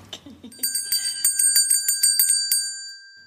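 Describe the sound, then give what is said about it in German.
A small gong is struck as a test about a dozen times in quick succession, each hit bright and metallic, with high ringing tones sustaining beneath the strikes and then fading out alone. “Das war die Probe mit dem Gong.”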